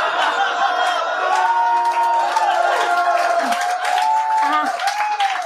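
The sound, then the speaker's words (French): A crowd applauds steadily with loud cheers and whoops rising over the clapping, a dense, sustained roar of approval lasting several seconds. “Voyons donc, les gens applaudissent ça.”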